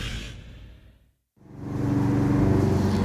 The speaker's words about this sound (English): I see that the gentleman mowing the lawn has gotten a little closer, but, well, I'll deal.